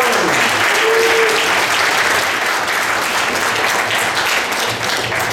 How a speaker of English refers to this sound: All right, one more round of applause.